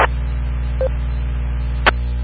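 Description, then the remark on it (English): Phone keypad tones while a number is typed on a phone: a few brief, separated electronic beeps and clicks, fairly quiet, over a steady low electrical hum with no talking. “that's what I was typing actually on my phone, 571”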